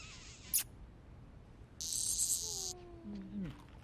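A loud, shrill cicada chirring buzzes steadily for about a second, preceded by a sharp click and followed by a few faint, squeaky tonal whines.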